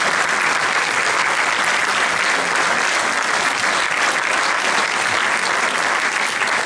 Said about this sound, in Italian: un grande applauso.